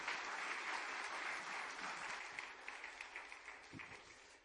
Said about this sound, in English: All right, give her a good clap offering. Good job.